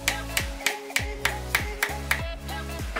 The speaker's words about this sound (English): Cut a slice of wood slightly larger than the diameter of the pipe. Hit the wood with the pipe using a hammer to ensure a snug fit.